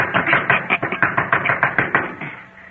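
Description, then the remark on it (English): A doorbell rings while another person knocks on the door at the same time in a fast, steady run of about a dozen sharp raps, fairly loud and alone, fading slightly at the end. “Ring the bell again, dear.”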